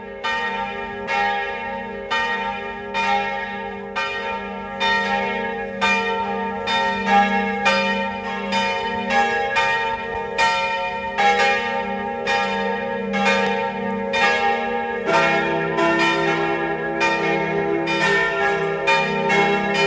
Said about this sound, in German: Es ist 12 Uhr. Sie hören die Glocken der Pfarrkirche Mistelbach, Niederösterreich.